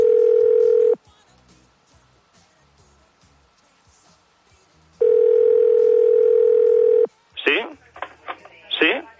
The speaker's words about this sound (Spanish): Suena el teléfono, descuelgas, ¿y qué es lo primero que dices? ¿Quizás esto?